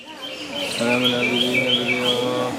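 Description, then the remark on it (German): Birds chirp and twitter continuously under the Bodhi tree in India, their high warbling calls layered over a low, steady meditative murmur of Buddhist monks chanting together. “Wenn nur das Zwitschern der Vögel zu vernehmen ist und das meditative Murmeln der buddhistischen Mönche, die hier oft stundenlang ausharren.”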